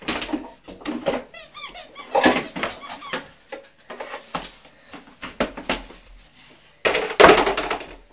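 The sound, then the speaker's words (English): Chairs and tables being moved, scraping and squeaking across a hard floor, with several shrill, wavering squeals, knocks and clatters over several seconds, ending in a louder thump. “What are you doing with the chairs and the tables?”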